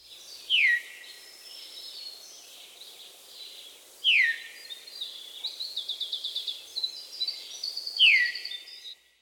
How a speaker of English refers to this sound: Now let's get back to normal speed and listen to the Veery's call note, a vocalization that seems to repeat the bird's name. Veer, veer.